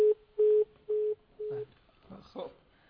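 After a caller hangs up, a steady phone tone beeps four times in an even rhythm, fading slightly, then a voice begins talking just after the beeps end.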